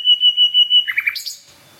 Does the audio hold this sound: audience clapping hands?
no